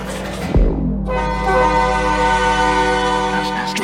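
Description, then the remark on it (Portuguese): A small road train in Balneário Camboriú, Santa Catarina, sounds its horn in one long, loud, steady blast lasting several seconds, preceded by a brief rumbling sweep, with a low engine hum underneath. “Esse trenzinho tá da hora.”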